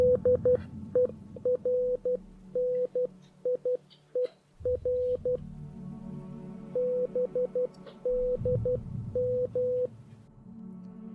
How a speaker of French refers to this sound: Et à cette époque, 2 navires américains auraient capté des messages de détresse venant d'un navire marchand néerlandais, le Ouran-Médan. Et voici ce qui aurait été capté en morse.